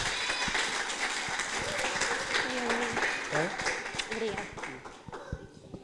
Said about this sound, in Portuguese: Uma salva de palmas.